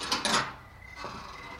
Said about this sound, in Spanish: Oigo el crujir de la puerta de la entrada que se abre.